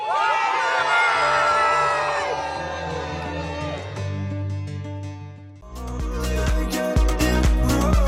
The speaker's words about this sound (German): damit wir bitte so schöne Jubeltöne hören wie diese.